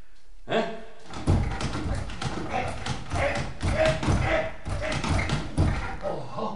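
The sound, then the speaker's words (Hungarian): Someone repeatedly shoves and rattles a locked door, producing a steady series of heavy thuds and knocks for several seconds without it giving way. “Azt az ajtót próbáld.”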